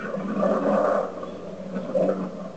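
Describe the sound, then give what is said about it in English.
An airplane passes overhead with a continuous, broad rumbling roar that swells slightly and holds steady for a couple of seconds, with no voices over it. “We're hearing a plane.”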